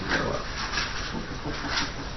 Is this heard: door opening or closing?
no